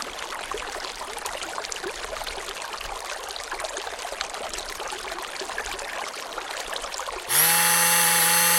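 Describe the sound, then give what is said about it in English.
A steady burbling brook runs for about seven seconds, its bubbling water sound broad and even, then cuts abruptly to the loud, constant mechanical whine and strong tonal hum of a running blender. “Listeners, the City Council, for national security reasons, have replaced the following report with the sound of a burbling brook, followed by the sound of a running blender.”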